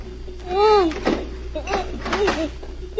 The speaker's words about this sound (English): Then she heard someone trying the lock on the door.